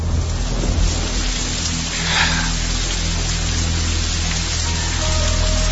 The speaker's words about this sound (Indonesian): Kedengar di luar hujan cukup deras dari genteng kaca itu.